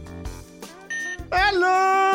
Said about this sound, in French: Vous avez des buzzers personnalisés, je vais tout de suite les paramétrer. Je commence par